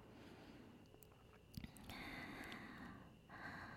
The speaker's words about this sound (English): Do you love it when you hear me this close? When I'm this close to you? You can hear me breathing really close to your ear.